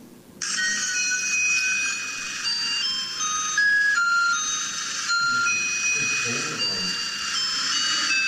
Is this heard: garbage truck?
yes